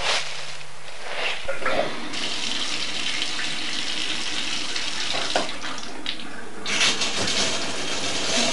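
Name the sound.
running water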